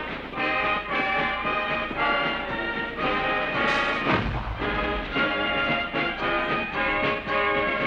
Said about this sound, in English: Then, as now, the highlight of the day's festivities was a rousing fireworks display.